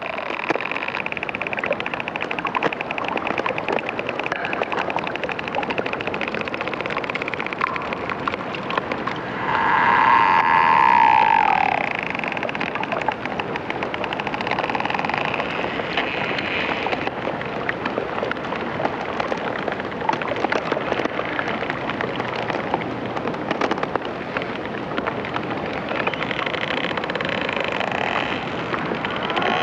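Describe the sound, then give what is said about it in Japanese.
Steady trickling and dripping water from ice slowly melting as the sun rises and the temperature climbs, across a vast area. A dense, continuous patter with scattered small drips, and a brief brighter chirp-like tone rising out of it partway through. No one speaks. “太陽が昇り、気温上昇することで氷が少しずつ溶け始め、この血が流れるような原始的な音がかすかに、しかしそれは広大なエリアで鳴り始めます。”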